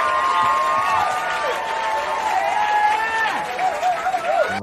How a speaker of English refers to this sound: Let me give Hank a round of applause.